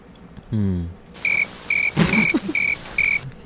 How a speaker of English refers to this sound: Ben's taking over the soundboard. It's crickets.